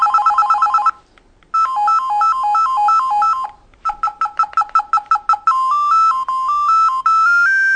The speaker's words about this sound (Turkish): Bak burada da zil seçebiliyorsun hocam. Bakın burada zil seçebiliyorsun. Yani sana ayrı bir zil atabilirim.